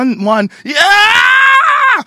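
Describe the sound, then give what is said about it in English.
A person imitates Howard Dean's infamous campaign rally scream: a short low vocal grunt, then a long, loud, strained yell that rises and holds for over a second, with no other sound. “One yell, and it tanked the whole thing.”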